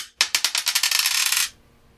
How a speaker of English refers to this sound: Roll that dice, or just do them both.